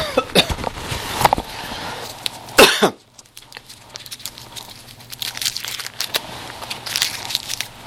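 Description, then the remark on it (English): Crinkly plastic wrapper rustling and crackling as a cough drop is unwrapped, with a brief cough-like burst partway through and softer handling noises afterward. “Another cough drop.”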